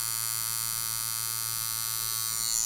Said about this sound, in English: This buzzing means an artist is at work, a tattoo artist.